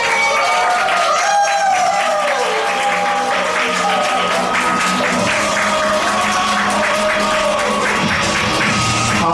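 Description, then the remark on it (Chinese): A large audience at a training seminar bursts into loud, sustained applause welcoming the day's lecturer, dense clapping for several seconds with cheers and whoops rising above it, holding steady throughout without anyone speaking. “那我们现在呢，就以最热烈的掌声以及欢呼声欢迎我们今天的讲师”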